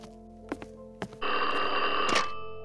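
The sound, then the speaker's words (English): A few sharp knocks or clicks, then an old-style home telephone bell rings loudly and continuously with a bright metallic jangle as a friend calls while police search the residence, with no one speaking. “one of Joseph's good friends accidentally beat Walsh to it by calling Joseph's phone as police still combed for clues”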